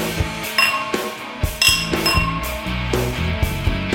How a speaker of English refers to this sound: So the secret to a good clink, gentlemen, is you still have half your glass left.